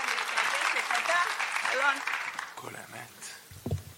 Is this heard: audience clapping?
yes